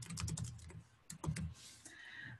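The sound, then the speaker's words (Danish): Quick bursts of typing on a computer keyboard, keys clattering in short rapid runs with a brief pause between them, moderately loud, with no talking, as a title and a short text are typed into a template. “Og skrive en lille tekst hernede.”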